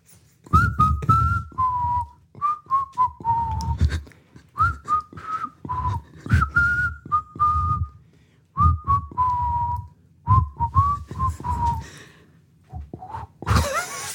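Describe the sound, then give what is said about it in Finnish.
A person whistles a slow, lilting tango melody in repeated phrases of sliding, wavering notes, with short breaths and pauses between them; a brief burst of noise cuts in at the very end. “Kyllä mä vielä, kun me tehdään 100 jaksoa, niin mä opin viheltämäänkin.”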